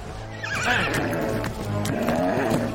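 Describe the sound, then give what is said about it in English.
A horse whinnies loudly as its rider urges it across a meadow, its neigh rising and wavering in pitch over about three seconds, with faint hoof clatter beneath and no voices. “encourages his horse to ride across the meadow.”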